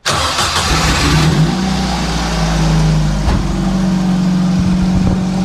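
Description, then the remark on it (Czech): A Ford Focus 1.4 car engine runs at a steady mid-pitched idle, swelling slightly as the car pulls out of a garage, with a brief knock partway through and no one speaking. “To je moje auto. Co to je za značku? Ford Focus 1.4. Tak vyjedeme z garáže.”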